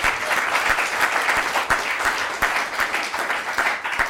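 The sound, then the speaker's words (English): A live audience of a program applauds steadily, dense overlapping claps forming a sustained, fairly loud wash with a few sharper individual claps standing out, no one speaking over it. “We also want to thank everyone in our live audience for participating in the program. Let's give you a round of applause.”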